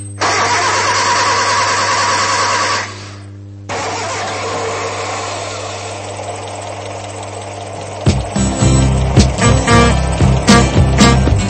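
A steady mechanical drone breaks off briefly, then an old car engine coughs into life and rumbles loudly with uneven, sputtering pulses. No one speaks.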